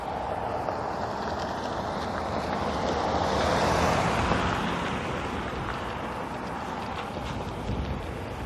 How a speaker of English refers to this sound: Car coming.